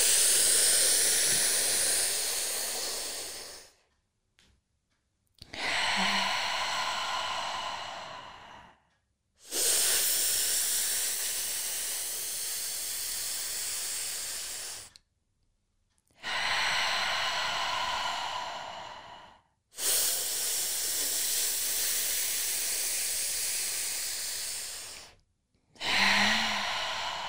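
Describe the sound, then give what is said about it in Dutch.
Slow, deep breaths drawn in and breathed fully out, five or six long airy whooshes separated by brief silences, fairly loud with no talking. “Je laat dat vertrouwen door elke cel van je lichaam gaan en wat niet dient, dat adem je helemaal uit. En neem er net zo vaak een teug van de ballon, totdat je voelt dat het vertrouwen in elke cel van je lichaam als een wervelwind door je heen gaat.”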